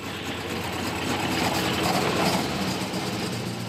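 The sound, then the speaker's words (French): A Volkswagen Golf 1 race car, prepared for circuit, slalom and hill-climb racing, with a small 8-valve engine of 200 horsepower, idles with a steady, rough low rumble and a hissy, buzzing edge, holding an even level for the whole few seconds with no one speaking. “Ben voilà, une Golf 1 préparée pour circuit, slalom, course de côte, avec un petit 1006 8 soupapes. 200 chevaux, elle est refaite, on va dire, comme il faut, quoi.”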